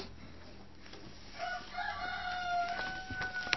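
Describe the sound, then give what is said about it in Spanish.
A rooster crows, its long rising-then-sustained call stretching over a couple of seconds against a faint background hum. “Tengo un gallo que hace su comentario.”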